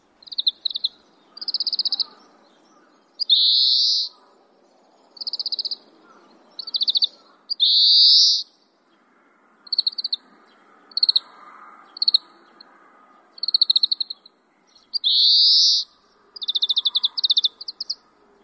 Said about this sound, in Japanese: スズメと思って見過ごされていることの多いカワラヒワですが、近くで観察する機会があれば、スズメとは違ういくつかの特徴に気づくはずです。